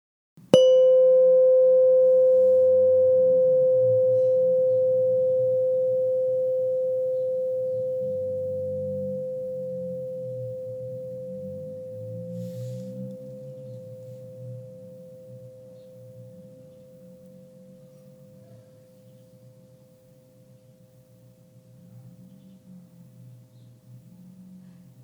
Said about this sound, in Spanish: Volverás a escuchar el sonido de la campana. Date cuenta del momento en el que dejes de escuchar el sonido.